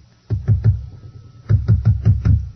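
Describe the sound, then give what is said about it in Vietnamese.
Knocking on a door, loud: a quick burst of three raps, a short pause, then a steadier run of about five more solid thuds. “Vừa đến lúc đó thì có tiếng gõ cửa.”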